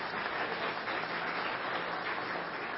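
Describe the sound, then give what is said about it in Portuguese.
A steady wash of audience applause greeting council members from the municipality of Água Fria de Goiás, many hands clapping together in a dense, continuous patter that holds an even loudness throughout without fading. “Eu vou falar aos municípios aqui, gostaria que levantasse os conselheiros que aqui estão e possa todos nós saudá-los com a salva de palmas.”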